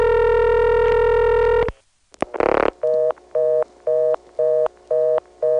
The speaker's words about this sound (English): Yikes, another Carolina telephone step with ESS ring.